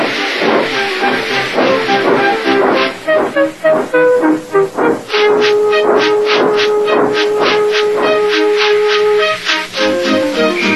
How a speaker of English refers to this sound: with much noise and blowing of steam, got ready to back onto the train.